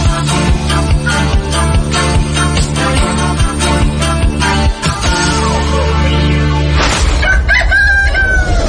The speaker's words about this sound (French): Tous les matins, entre 4h et 6h, LN Radio vous réveille au chant du coq.